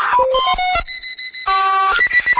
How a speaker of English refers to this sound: Beeps.